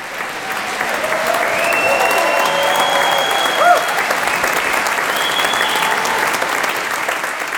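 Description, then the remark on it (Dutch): Sustained applause from a large audience in the full hall of the Muziekgebouw aan het IJ at the end of a world premiere, a dense steady crackle of clapping lasting throughout, with faint cheers and whistles rising above it. “Een paar uur later, aan het einde van de wereldpremière in de volle zaal van het Muziekgebouw aan het IJ, klinkt dat zo.”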